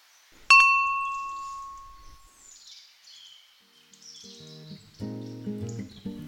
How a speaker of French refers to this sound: Une petite sonnette avec une grenouille. Je vais peut-être annoncer ma présence.